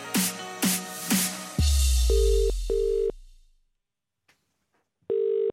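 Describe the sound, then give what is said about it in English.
A phone call rings out: three quick bright electronic chimes, then a low rumble and short, steady ringback beeps that repeat after a pause of silence. It is a prank call from the TalkSport breakfast team to Ray Parlour, placed from an office phone. “and the TalkSport breakfast team took the opportunity to play a little prank on Ray Parlour, even though, by the way, the phone call was made the day before, so it wasn't even in April.”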